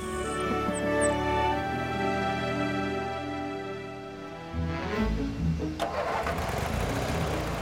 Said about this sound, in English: Well, this lawnmower is going to have to do. Now, let me explain the clutch. You see, it's a little bit tricky here. I can't ride around on a lawnmower.